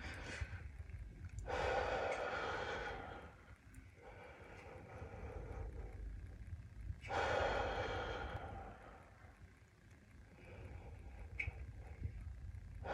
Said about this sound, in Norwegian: Når du puster litt dypt ut og inn.